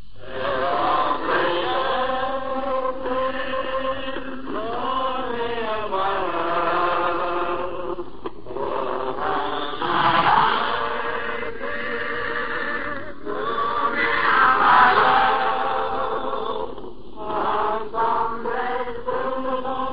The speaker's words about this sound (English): They are the men who a few hours before had set off in a multitude of landing craft from the shores of Britain. These men you now hear singing in this actuality broadcast made in the crowded hold of one of those craft.